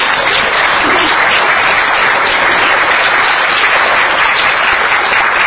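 Sustained applause from Rotary club members giving a round of applause, a dense, even patter of many hands clapping at steady loudness with no pauses and no voices standing out.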